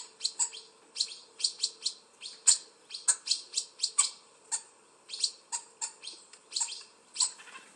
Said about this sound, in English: Did you know the male hoopee's chirp is lower than the female's?